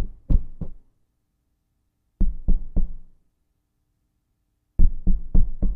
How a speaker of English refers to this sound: And it just won't get away, does it? It just keeps on happening. Mm-hmm. You know who that is knocking on the door of your heart? It's God.